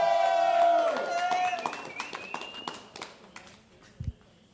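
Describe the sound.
An audience bursts into applause with loud voices and cheering to welcome the next performer at a live show in Río Piedras, then the clapping thins to scattered, fading claps over a few seconds.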